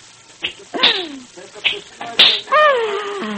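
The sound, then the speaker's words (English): Several sharp whip cracks snap out at a circus at irregular intervals, loud, mixed with drawn-out vocal calls and cries between and after the cracks. “And when you crack your whip like that tonight in the center ring, Rosa the equestrian, the daring rider, we'll die.”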